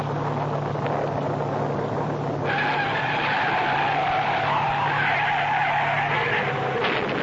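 Car tires skid with a sustained, high-pitched squeal that begins a couple of seconds in and holds steady over a constant engine drone, with no voices; a car skidding at night in bad weather and crashing through a guardrail.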